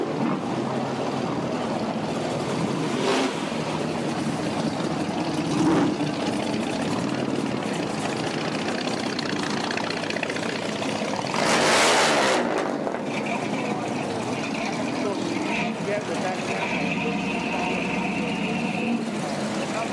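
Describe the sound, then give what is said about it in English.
Car engines idle and rumble steadily at an outdoor car show in a dense, constant wash of noise, with one brief louder roaring surge midway and faint background voices. “Enjoy the car show.”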